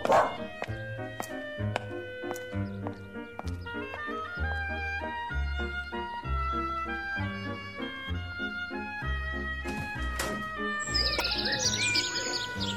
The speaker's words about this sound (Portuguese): Totó, fica aqui que eu vou atender a porta. E para de latir